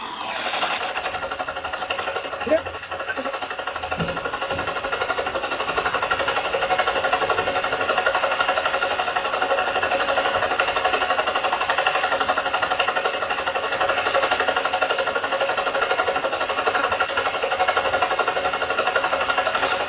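A loud, steady engine roar of the AccuWeather news helicopter, with a grinding, rhythmic rotor chatter that runs unbroken for the whole stretch, sounding muffled and band-limited, with a brief knock near the start and no voices.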